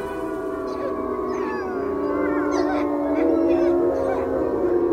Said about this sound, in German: Wenn das Kirchdorf entschlummert und kein Lied mehr erklingt, wenn ein graulicher Nebel auf den Sümpfen erblinkt, dann verlassen die Wälder und durchstreifen die Felder fressbegierig 9 heulende Wölfe.